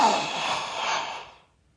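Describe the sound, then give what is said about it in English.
A single breathy gasp, fairly loud, a sharp intake of air that trails off over about a second into silence, with no talking around it; Klaus gasps on discovering something remarkable in an auction catalogue. “Klaus ended his sentence in a gasp, but his sisters knew immediately that he did not mean that the 50th item to be sold at the inn auction was a sharp intake of breath.”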